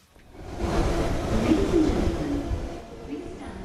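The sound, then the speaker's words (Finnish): A London Underground metro train, ridden at the start of a tour from North London, rumbles loudly and steadily, a dense low roar with a faint whining tone riding on top, swelling in after a quiet start and continuing throughout. “Hypätään metroon ja aloitetaan kierros Pohjois-Lontoosta.”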